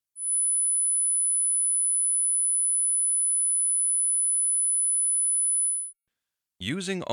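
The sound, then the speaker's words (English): A steady, very high-pitched 10,000 hertz sine test tone rings out evenly and loudly for nearly six seconds, stops abruptly, and a voice begins speaking just afterward. “5,000 hertz. 10,000 hertz.”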